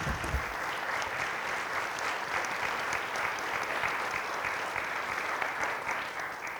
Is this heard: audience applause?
yes